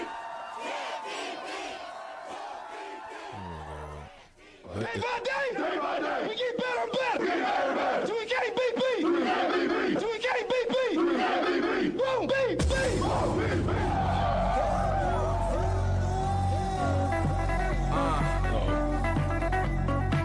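A loud Nebraska Huskers football game day pump-up song with crowd chants: shouted, chant-like voices over a brief intro, then a heavy bass-driven beat crashes in about midway and drives hard to the end.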